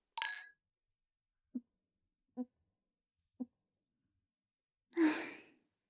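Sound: glasses clinking together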